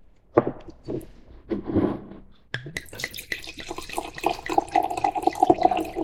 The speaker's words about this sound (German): Der Sound ist schon immer gut. Schon allein deshalb muss man immer auch nochmal live einschenken.